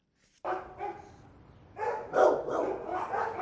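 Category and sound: animal, dogs barking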